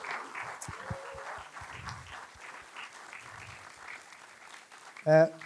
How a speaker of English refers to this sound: So can I get a round of applause for all these wonderful people that don't have to do that?